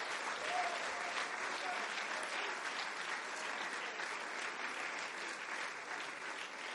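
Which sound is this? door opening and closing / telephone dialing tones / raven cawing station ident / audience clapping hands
audience clapping hands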